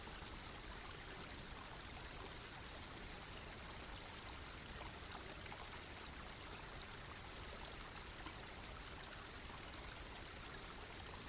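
A steady, continuous babble of flowing stream water, even throughout, with a soft trickling texture and no voices.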